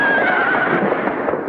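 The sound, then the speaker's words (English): A horse whinnies loudly over a steady, dense clatter of galloping hooves as three men gallop their horses down a town's main street, continuous, with no voices. “When the men look out, they see three guys galloping their horses down Main Street and firing their pistols into the air.”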